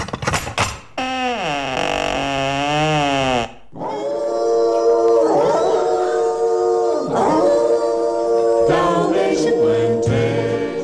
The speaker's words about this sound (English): There, on Cruella's doorstep, were two inquisitive-looking Dalmatian dogs, their hackles raised and growling fiercely at the strange woman.